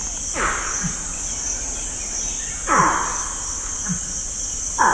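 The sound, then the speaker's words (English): Putty-nosed monkey calls: three loud, downward-sweeping cries spaced a couple of seconds apart, strung together as a phrase meaning "come on, it's time to go", rising over a constant high-pitched drone of crickets and insects. “What you've just heard is the sound of a putty-nosed monkey saying, "Come on, it's time to go."”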